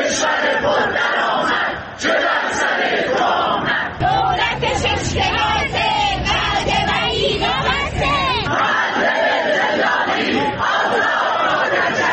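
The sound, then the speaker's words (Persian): A large crowd of retired civil servants chants and shouts loudly in unison at a weekly Tuesday protest rally in front of the civil service pension fund offices, voices rising and falling in rhythmic waves with a steady roar of many people underneath for the whole stretch. “گروه‌هایی از بازنشستگان کشوری در ادامه تجمعات هفتگی خود موسوم به سه‌شنبه‌های اعتراضی در مقابل صندوق‌های بازنشستگی کشوری در چندین شهر از جمله کرمانشاه، عراق، اهواز، سنندج، همدان، یزد، اردبیل و شیراز تجمع کردند.”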